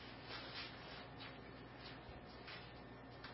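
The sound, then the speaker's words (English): Faint rustling of Bible pages being turned to 1 Corinthians chapter 15, several soft papery swishes overlapping with no one talking. “I still hear pages turning, so I'll wait.”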